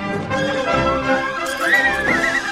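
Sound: horse neighing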